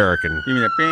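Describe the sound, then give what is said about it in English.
A steady, high-pitched American fire truck siren tone holds throughout the second, running continuously beneath people talking. “No, that's your That's a fire truck.”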